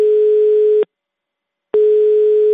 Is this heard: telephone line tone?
yes